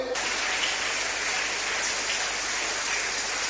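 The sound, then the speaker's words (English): A crowd claps steadily for Jesus, a dense, hissing wash of many hands that starts almost at once and holds an even loudness throughout, with no voices on top. “Now if you are clapping for Jesus, you should do it very well.”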